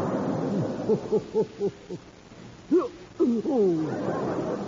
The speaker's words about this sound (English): Yeah, I believe you have the hiccups. Yeah, either that or I've been breathing with jerk propulsion. Yeah. I feel like I swallowed a boomerang.